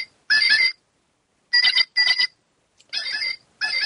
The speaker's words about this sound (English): She's pouring it in one of our new talking mugs. We have several talking mugs. However, our latest one is our bird mug. When you pick it up off the table, it will play.